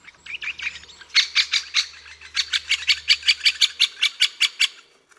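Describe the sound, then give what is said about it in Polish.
Calls of a Eurasian bullfinch, a bird with a red belly: soft twittering at first, then a steady run of about fourteen bright, pulsed chirps repeating evenly, fairly loud, with no voices. “Tego ptaka jeszcze nie dorobiłem się maskotki, to jest gil taki z czerwonym brzuszkiem, a tego ptaka widzieliśmy, on wam jeszcze raz tutaj wyda dźwięk.”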